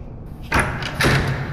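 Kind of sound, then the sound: household object, door opening and closing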